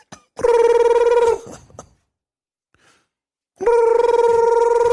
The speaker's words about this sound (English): Yo, hold up on me. Let me answer this phone real quick.